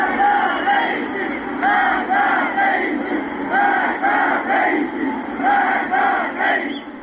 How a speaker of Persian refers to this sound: گزارش‌ها حاکی از تجمع اعتراضی در روز یکشنبه در شهر کرد است. بنابر تصاویر منتشر شده در شبکه‌های اجتماعی، معترضان شعارهای علیه سران حکومت از جمله ابراهیم رئیسی، رئیس جمهوری اسلامی سر دادند.